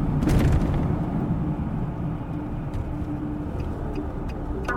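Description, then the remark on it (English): A car drives back into a park with a steady, heavy low rumble of engine and road noise, a louder burst at the start, and faint clicks and rattles over the continuous drone. “We drive back into the park.”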